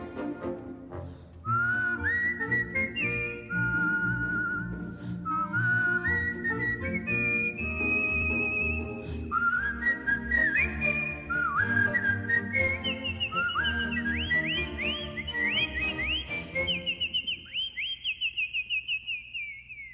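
Someone whistles a lilting melody, the pure tones stepping and sliding between notes over a steady accompaniment, rising to a long high warble at the end.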